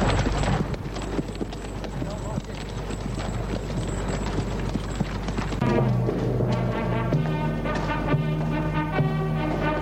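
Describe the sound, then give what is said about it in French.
Horse hooves clip-clop in a steady rhythm as a horse-drawn carriage arrives at the border, with voices and sustained tonal sounds joining in the second half. “Fiancée arrive à la frontière en carrosse.”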